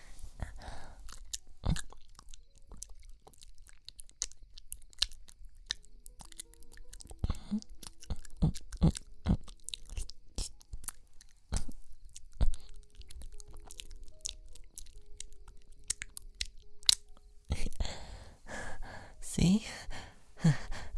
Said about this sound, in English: I'll cheer you up by licking away the tears from your cheek. This is gonna feel nice. Here.